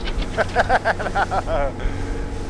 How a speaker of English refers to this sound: It's a 20-minute boat ride upriver.